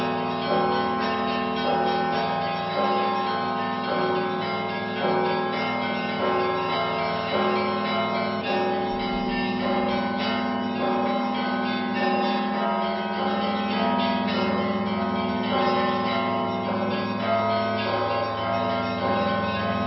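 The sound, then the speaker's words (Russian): A festive Christmastide (sviatochny) peal of church bells, rung by Maksim Lemachka, a student of the Vitebsk school of Orthodox bell-ringers, rings continuously and loudly, many bells overlapping in a dense, shimmering cascade with steady rhythmic strikes and long sustained ringing throughout. “А теперь у гэтыя калядные дни будет, до речи, послухать звон, який так и называется – святочны.”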